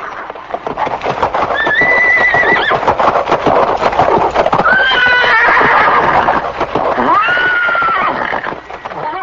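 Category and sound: animal, horse neighing loudly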